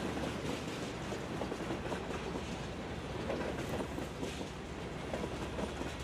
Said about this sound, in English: When the train first starts, it's like this big ching, ching, and it's like a jolt. And so I remember that feeling and just having the train pull away, and it was just kind of sweet being in my little hamster ball with my friend, but it was tight.